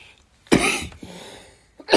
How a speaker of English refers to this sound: sorry, I've got a bit of a cough, so bear with me.